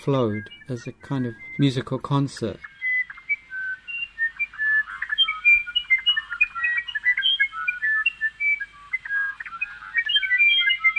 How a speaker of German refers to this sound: Mitte der 70er Jahre wurden Arrangements von Rocher in einem Park in Lyon aufgeführt. Bei Einbruch der Dunkelheit konnte man dort im Sommer die Gesänge von Vögeln aus Lautsprechern in den Bäumen hören.